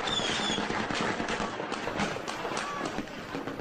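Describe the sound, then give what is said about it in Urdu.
Sharp cracks of gunfire as Houthi fighters fire on oil tanks at the refinery in Aden, Yemen, repeating irregularly through a dense, noisy outdoor din, some shots louder than others, with indistinct voices faintly mixed in the background. “ایک اور ویڈیو میں عدن کی ریفائنری میں ہوتیوں کی جانب سے تیل کے ٹینکوں پر فائرنگ اور انہیں آگ لگانے کے بعد سیاہ دھواں اٹھتا دکھایا گیا ہے.”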